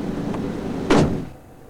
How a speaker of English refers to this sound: Jeff shuts the hood and gets back into the car